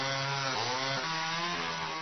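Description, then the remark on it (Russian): A power saw whines loudly and steadily through wood, its motor pitch dipping and rising a couple of times as it bites in, with no voices over it. “Ты пилит, ты пилит, ты пилит. У Миши от тебя внутри уже одни опилки.”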